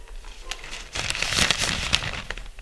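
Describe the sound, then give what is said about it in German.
A paper note, found at a wall clock, is crinkled and rustled, starting after a short quiet moment and continuing as a steady, fairly loud crackling with a few sharper snaps; no one speaks. “Ein weiterer Zettel!”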